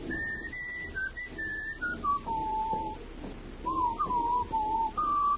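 A man whistles a tune as the character McGaffigan down by the waterfront: clear, sustained notes stepping downward in pitch, a brief pause, then a second phrase of gliding notes, with no talking over it.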